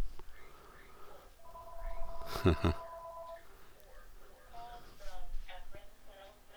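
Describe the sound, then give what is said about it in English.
A telephone rings with a steady electronic trill for about two seconds, clear, then stops. Quiet talking follows afterward. “I should have turned the phones off, I guess, before I started doing my podcast, shouldn't I?”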